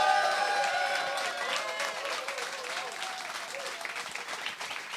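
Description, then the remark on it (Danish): Loud, sustained applause from a crowd, dense and continuous with scattered whistles or cheers on top, easing slightly toward the end. “og så klappe helt vildt, når I ser det.”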